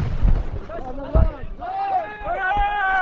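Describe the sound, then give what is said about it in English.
Two heavy, dull bangs of tear gas launchers firing, about a second apart, as Israeli soldiers fire a volley of tear gas at a crowd of Palestinian farmers blocking a bulldozer in Jayus; shouting, wailing voices keep rising and falling throughout. “A volley of tear gas pushed the crowd back, but not for long.”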